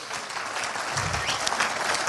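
Sustained audience applause as a person is invited up to give testimonies, a dense wash of many hands clapping at once, steady and fairly loud throughout with no voices standing out.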